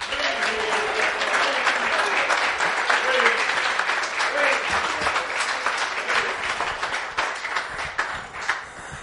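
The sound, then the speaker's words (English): An audience breaks into sustained, loud applause and cheering for the Lord, dense clapping filling the whole stretch with scattered voices calling out over it at a steady level throughout. “Give the Lord a cheer.”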